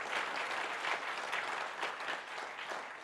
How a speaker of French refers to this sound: Et ça, ça vaut une main d'applaudissement au Seigneur.